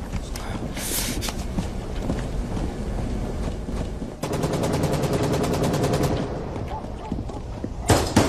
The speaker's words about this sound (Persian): میدون تیر. ولی الان دارن نمونه های واسیلی الکسیویچ آزمایش میکنن. حد یکم تیر اندازی میکنیم.